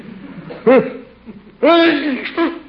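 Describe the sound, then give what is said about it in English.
A person sneezes: a short voiced catch of breath, then a loud, drawn-out sneeze with a brief vocal tail, over a faint low background hum. “Bless you.”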